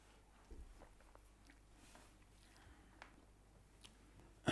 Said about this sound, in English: Let me have a sip.